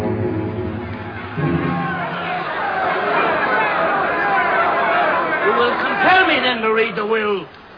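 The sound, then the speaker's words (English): A large crowd assembled on the steps of the Forum as Mark Antony shows Caesar's murdered body murmurs and chatters steadily, many overlapping voices blending into a continuous babble, with a few louder individual voices rising above the hubbub near the end. “Now, on the steps of the Forum, Mark Antony shows Caesar's murdered body to the assembled crowd.”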